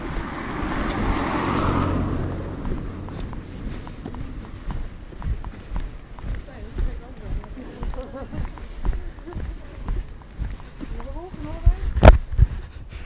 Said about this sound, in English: Oh, car coming. Whoops.